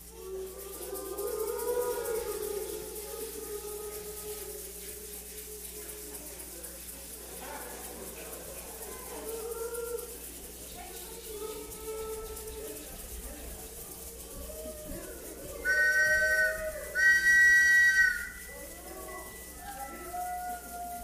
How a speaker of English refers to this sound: Suddenly, from outside, came a sound of hissing steam and a rumbling machine.